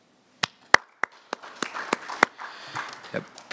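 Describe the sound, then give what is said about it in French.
A few scattered claps at first, then more hands join in for brief, light applause from a small group of committee members accepting a candidacy by acclamation, with sharp individual claps standing out over the patter. “So, yeah, may I invite the committee to accept this by acclamation?”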